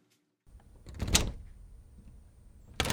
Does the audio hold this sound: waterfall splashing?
no